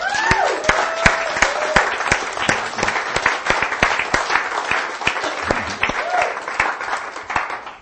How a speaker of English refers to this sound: Let's give these guys a clap.